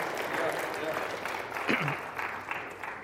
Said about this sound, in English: Is it appropriate for you to give them just a light round of applause there?